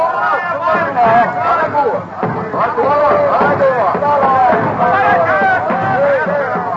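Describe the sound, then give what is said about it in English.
An excited crowd of tribesmen in a big native village in Africa shouts and calls out, hailing Henry Stanley and his company as they march in, in a loud, continuous babble of overlapping voices, with rising and falling cries rippling through throughout. “A few weeks later, in Africa, Henry Stanley and his company march into a native village and are hailed by excited tribesmen.”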